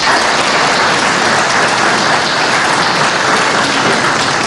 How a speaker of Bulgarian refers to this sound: Казват земеделците, че май месец като вали се, но жълтици падат от небето. Така че дъжда да считаме, че ни е на мокрил, но всъщност е за добро.